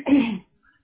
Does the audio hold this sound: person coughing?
yes